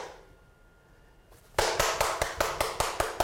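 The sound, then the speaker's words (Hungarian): After a short stretch of near silence, hands start clapping in a steady, fairly quick series of about ten sharp, loud claps, with nothing else heard. The claps are an impulse sound spanning a wide frequency range, made to show many lines on an old analog measuring device. “Egyet tapsolok, akkor nagyon sok vonal fog megjelenni.”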